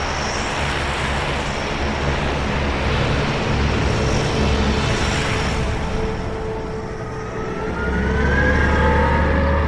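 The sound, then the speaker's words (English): The airport shuttle bus 'Ivan the Terrabus', a 40-foot, 67,000-pound, 23-year-old vehicle made of Canadian steel, drives slowly along with a steady, loud engine roar and deep low rumble, joined near the end by a rising mechanical whine. No one speaks. “A road warrior-looking behemoth that takes us slowly towards our destination.”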